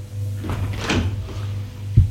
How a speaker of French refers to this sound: La porte du salon s'est ouverte.